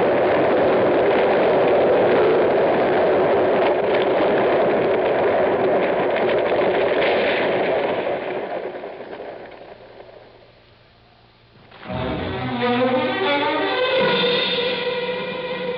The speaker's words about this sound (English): From lengthwise down the canyon. It hit that rock on the other side, broke it loose. I know. Look out. Another avalanche.